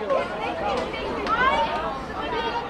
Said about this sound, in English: his friends crowd outside their Madrid school on the first day of classes, discussing what happened over summer vacation.